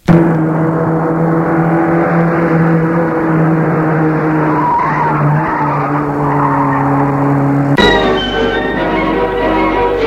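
A car speeds along the coast away from town, followed by another car, with a loud, sustained squeal of tires, the screech holding steady for several seconds before shifting abruptly in pitch near the end. No voices.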